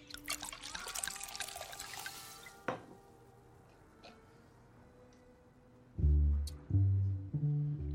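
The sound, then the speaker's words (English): Water pours into a glass for a couple of seconds to water down a drink that is too strong, a splashy trickle, then a quiet pause before a few low, resonant knocks near the end. “We water it down.”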